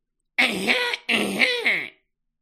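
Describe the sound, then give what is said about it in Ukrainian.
Professor Umbridge performs a loud, deliberate cough, two pointed throat-clearing bursts in quick succession, isolated with no talking around them. “Професорка Амбридж кашлянула дуже голосно.”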